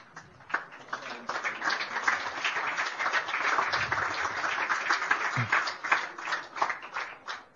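An audience claps steadily, a dense patter of many hands that swells and holds for several seconds before thinning out, with faint voices mixed into the crowd noise, applauding the Pécs University Chaplaincy as participating Catholic university chaplaincies in Hungary are announced.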